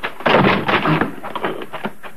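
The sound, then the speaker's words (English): A side door being forced open: a burst of heavy, cracking thuds and splintering bangs, then a few smaller knocks and rattles as it gives way. “Hit that side door.”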